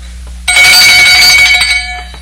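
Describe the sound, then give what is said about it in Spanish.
A small handbell rings loudly and continuously for over a second, a bright metallic jangle with sustained ringing tones, then fades slightly as it stops. “¿Oye usted esta campanilla?”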